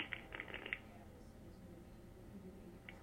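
A sheet of thin Japanese paper rustles and crinkles as a page is turned, a quick cluster of soft crackles, then quiet, with one last faint crinkle near the end.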